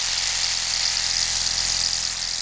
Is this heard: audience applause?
no